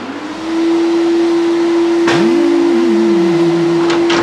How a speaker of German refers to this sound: Hey Dad, musst du unbedingt jetzt staubsaugen? Ich will noch schlafen.